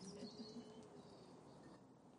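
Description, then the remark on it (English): Faint birds chirp and twitter over a steady hum of outdoor ambience, with brief, scattered high calls and no talking. “And if anybody wants to compete with the birds, I'll take a question.”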